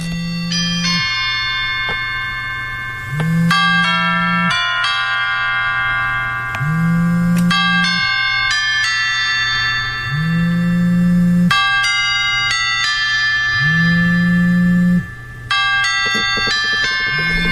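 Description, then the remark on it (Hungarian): A bell-chime version of the miners' hymn, the kind played at miners' funerals: a slow hymn-like melody rings out in bright, bell-like chimes over sustained low tones, its phrases repeating steadily. The chimes are loud, with no talking. “Ennek a bányászhimnusznak létezik egy harang változata, amit a temetéskor szoktak lejátszani.”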